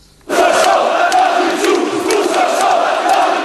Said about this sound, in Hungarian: Tadic Ustasa, Tadic az áruló, ordították a nacionalisták Belgrád főterén. A teljes belvárost ellették a Karadzsics mellett tüntetők, néhányan a villanypóznákra is felmásztak, végig a kormány lemondását követelték.